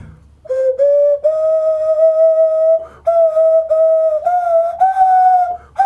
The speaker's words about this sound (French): C'est un instrument de musique. J'ai pas eu le temps de le voir. C'est un sifflet à nez.